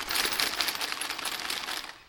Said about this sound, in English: This is the hat from the Beige Motel. We can make a little sound from it. It's made out of the room keys.